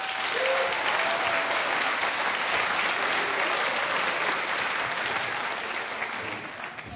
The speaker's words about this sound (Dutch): Ik wil dit enorme leuke combo bedanken. Een applaus!